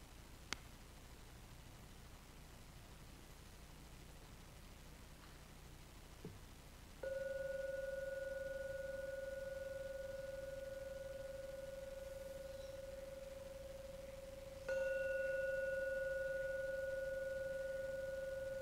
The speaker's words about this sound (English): Gong 3 times. Please wait until the last ringing vanishes before you open your eyes to end the meditation.